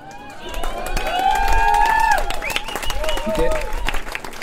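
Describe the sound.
Sustained audience applause, dense rapid clapping that swells and holds steady for several seconds, with crowd voices and cheering rising above it.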